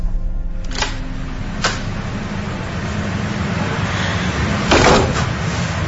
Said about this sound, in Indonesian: Aku lantas membuka pintu toilet yang agak berat itu.